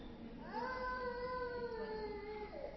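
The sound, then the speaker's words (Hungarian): A baby lets out one long, drawn-out wailing cry that rises and holds steady for a couple of seconds before tapering, over a faint background hum. “Nyugodtan megfoghatod a babát is, ha akkor megnyugszik.”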